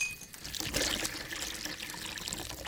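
Water pours steadily from a bottle into a large jícara, a dried gourd bowl made from a tree fruit, a continuous bright splashing trickle lasting a few seconds, with no talking.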